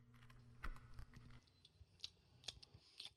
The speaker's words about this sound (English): Now, perhaps you'd put down that book on chaos magic by Grant Morrison for a moment and finish off chewing that delicious apple cinnamon muffin of Aunt May's